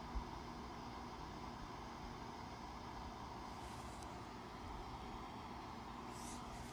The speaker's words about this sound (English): You can tell there are cars driving by on the main road.